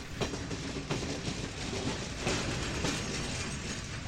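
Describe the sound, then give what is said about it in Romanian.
A train rushes along the rails at speed at night with a steady, dense rumble and recurring clickety-clack beats from the wheels, loud, heard from on board the train, with no voices. “Ce viteză are trenul. Ia uite, gările trec în goană.”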